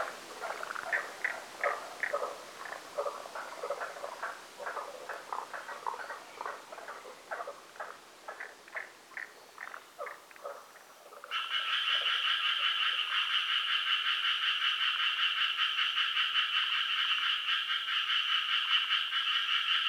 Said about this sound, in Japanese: 姿は見えなかったのですが、調べてみたところおそらくヒキガエルの仲間のようです。